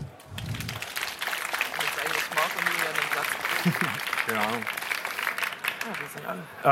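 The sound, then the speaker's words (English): An audience claps steadily for several seconds in a dense, continuous wash of applause, with a few voices calling out over it before the clapping fades, welcoming two speakers at a talk on privacy research. “Give a very warm applause.”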